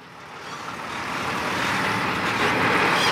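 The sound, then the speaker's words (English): A huge truck rumbles past, its broad engine roar swelling steadily louder over a few seconds with no voices present. “There's another huge truck.”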